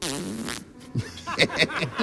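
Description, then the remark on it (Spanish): A voice imitates a zipper being pulled: a buzzing, raspy drone followed by several short, scratchy bursts in quick succession, fairly loud and with no other talking. “¿Cómo suena una cremallera?”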